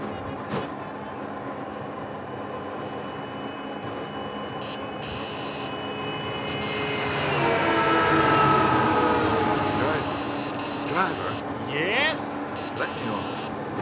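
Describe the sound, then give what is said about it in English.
A three-wheeled scooter taxi whines and buzzes as it careens through busy city traffic, its engine swelling louder midway as it speeds past, with steady road noise and indistinct voices mixed in throughout. “Well, jet lag or not, I think I'll try one of those three-wheeled scooter taxis. It's nothing like a little careening through traffic to wake me up.”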